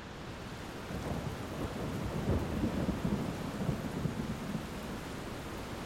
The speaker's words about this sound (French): Des cataractes d'eau s'abattent sur la place Saint-Étienne, ponctuées de coups de tonnerre.